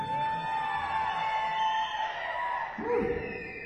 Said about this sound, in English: Scream all you want. I prefer the screams, so just go ahead.